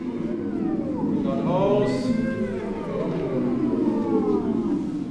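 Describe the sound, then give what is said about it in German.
Several singers warm up their voices before a rehearsal, singing sliding, wavering pitches together, gliding up and down like vocal warm-up sirens, sustained for the whole stretch with a slightly wailing, cat-like quality. “Aber es dauert nicht lange und bald ist das Einsingen schon richtige Musik.”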